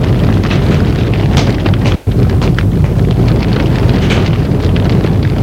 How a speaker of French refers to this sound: Il fait nuit, il y a du vent, ils vont du côté du marais.